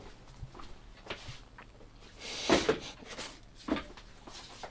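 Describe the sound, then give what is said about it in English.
A chair is dragged and set down, with a burst of scraping around the middle and a sharper knock shortly after, amid a few softer bumps and shuffles. “get a chair for the lovely Julia”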